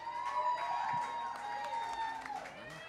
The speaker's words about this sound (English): Let's give one more round of applause for these boys right here, and then I'm going to sing one for y'all.